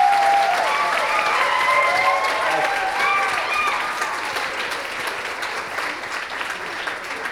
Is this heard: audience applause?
yes